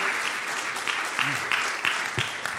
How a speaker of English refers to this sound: Give the worship team a hand clap again. You guys are spoiled with that.